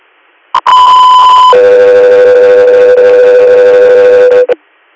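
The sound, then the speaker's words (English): A loud two-tone radio dispatch alert sent by Tesla 3: a short blip, then a steady high tone for about a second, followed by a long, lower steady tone lasting around three seconds, with no voices. “Tesla 3 here, stand by for tones.”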